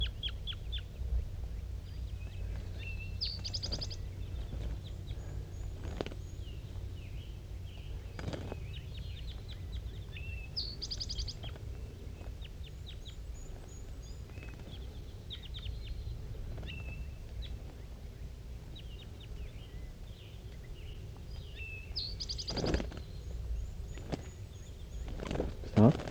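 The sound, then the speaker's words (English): Wild birds call softly back and forth in short, scattered notes from the top of a dead pine tree in thick fog, mixed with occasional rustling steps and a low outdoor rumble. “And they're calling pretty softly now, back and forth, 5-3 and the two wild ones.”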